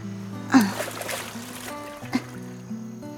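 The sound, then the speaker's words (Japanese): Gentle waves lap and splash, with two brief louder splashes a moment apart over a steady, low tonal background, as something drifts in on the waves. “あ、いや、何かが波に乗って流れてきた。”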